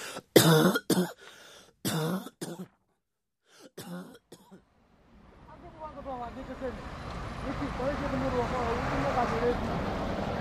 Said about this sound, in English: Are you okay? It's just a cough. I've had it a week now. It will go soon.